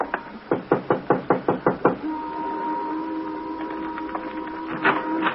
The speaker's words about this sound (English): 763 was a white single-frame house badly in need of repairs. The shades were drawn, but a dim light inside indicated someone was at home. Want a knock? Sure.